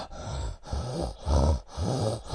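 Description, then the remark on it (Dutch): Four heavy, rhythmic breaths, deliberately exaggerated, each carrying a low, gravelly rumble from the person's lungs, separated by brief pauses. No one speaks. “Amai, ik hoor zo het binnenste van mijn longen, ik denk dat dat mijn longen zijn, hoor ik echt zo grommelen als je zo ademt en zo.”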